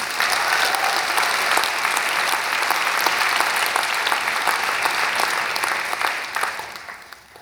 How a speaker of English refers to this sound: Give him a mighty hand clap, our God. Praise the Lord.